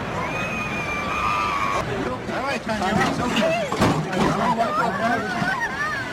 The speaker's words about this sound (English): Those are the screams of a woman who was hit by a shattered baseball bat during an A's-Red Sox game in Boston on June 5th. At the time, her injuries were considered life-threatening.